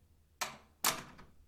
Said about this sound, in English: Can you close the door, please?